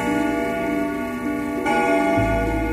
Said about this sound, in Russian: Именно в этот момент забили старинные часы в офисе «Серебряного дождя».